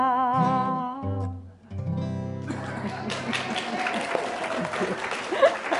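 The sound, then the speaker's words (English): A sung note and instruments finish, then an audience breaks into dense, steady applause that keeps going at an even loudness for the last few seconds. “That is sort of a clap one, isn't it?”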